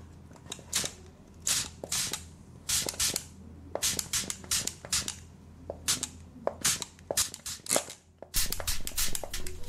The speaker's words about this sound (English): I'm just going to spray your face and like prep your face for the makeup. We want it kind of moisturized and a little bit wet to kind of like hold the makeup in place. Okay, so I'm just gonna cover your eyes and I'm gonna spray that.